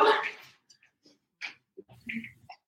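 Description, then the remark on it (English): Wet snuffling and snorting breaths from a small male French bulldog, a broad huff at the start followed by short irregular sniffs and grunts, with no one speaking. “my little French bulldog.”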